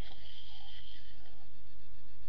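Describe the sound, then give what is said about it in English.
Someone noisily slurps a drink, a wet, hissing suck of air and liquid that carries on for a couple of seconds with no talking. “To slurp is a verb meaning to drink in a noisy way.”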